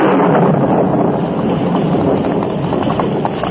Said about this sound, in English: A short time after the Lone Ranger and Tonto started to help in the search, a sudden thunderstorm broke.